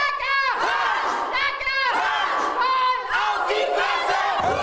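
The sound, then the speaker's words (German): A roller derby team, Sucker Punch from Nuremberg, Germany, shouts a loud battle cry together before training: 13 women and one man standing in a circle on roller skates, holding hands, several voices chanting in rhythmic bursts with rising and falling pitch, energetic and forceful throughout. “Das klingt martialisch und ist auch so gemeint.”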